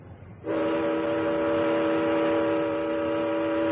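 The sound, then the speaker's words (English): A ship's siren blares in one long, steady, low-pitched blast that starts abruptly after a moment of rumbling noise and holds loudly and evenly to the end. “Sound the siren.”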